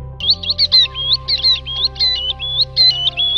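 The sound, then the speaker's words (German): A tern calling in a quick, steady run of high, sharp chirps and squeaky notes, about a dozen in three seconds, fairly loud over a faint low hum, with no talking. “Dies ist der Klang der Brustseeschwalbe.”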